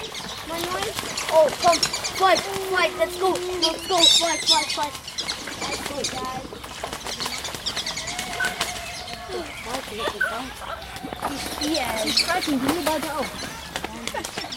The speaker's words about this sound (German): Das, was man gerade gehört hat, waren Enten, die irgendwie gekämpft haben. Ich weiß es nicht, aber ich glaube, es war wegen der Rangordnung.